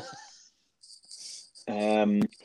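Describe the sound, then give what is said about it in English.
A mobile phone rings with a loud, buzzy tonal burst lasting about half a second. Faint hissing chirps come just before it. “Jesus, my phone is ringing, will you go?”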